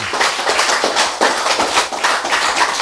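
An audience applauds: dense, steady clapping from many hands, loud and continuous across the whole stretch, with no voices over it.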